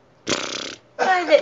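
Two loud, buzzy fart noises in quick succession, each about half a second long, with a brief pause between. They sound like a person imitating a fart with their mouth.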